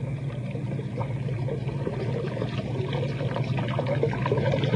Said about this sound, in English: There. There's our water, dear. Yes, yes, I see. Oh, that's funny. Something wrong? I don't think so. Or at least I'm not sure, but that water, there ought to be a lot more water than that coming through the gate, a whole lot more.